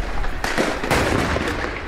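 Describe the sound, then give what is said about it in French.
A loud flurry of gunshots, sharp cracks firing in quick irregular bursts over a dense, echoing roar, with no voices present: the Kouachi brothers leave the printing works at Dammartin, Seine-et-Marne, France, and open fire, and the GIGN returns fire. “C'est à Dammartin que tout bascule, quand les frères Kouachi sortent de l'imprimerie et ouvrent le feu.”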